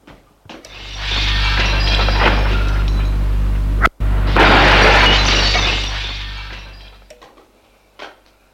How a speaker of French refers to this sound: La porte s'est ouverte d'un bond.